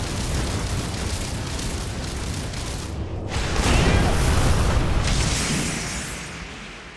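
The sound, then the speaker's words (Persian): A powerful strike lands with a deep explosive boom, followed by a sustained roaring rumble that swells louder midway and lingers with crackling, debris-like noise. “هر حمله‌ای که می‌کنی باید به قصد کشتن باشه. مثل این ضربه.”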